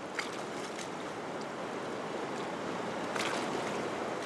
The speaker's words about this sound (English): We are midway across the Potomac River, which Brown crossed.